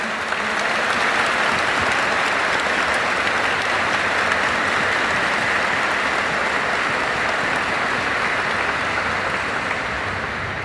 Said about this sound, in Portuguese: Vamos dar uma salva de palmas para a igreja de São Carlos.